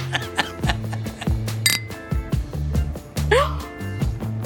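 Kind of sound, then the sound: household object, glasses clinking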